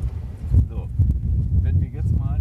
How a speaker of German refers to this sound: So, jetzt frischt es ein wenig auf vom Wind her.